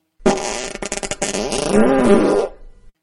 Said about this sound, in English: Dear Darth, if you farted, would it still sound like you? Let's find out.